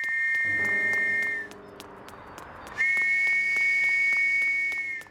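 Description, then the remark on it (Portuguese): A night watchman blows a shrill whistle furiously while running along Mitre Street toward Aldgate, in two long, sustained loud blasts separated by a brief pause, with no voices. “correu pela rua Mitre em direção a Aldgate, soprando furiosamente o apito enquanto corria.”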